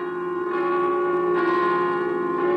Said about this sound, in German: Die Glocken der Potsdamer Garnisonkirche am 21. März 1933.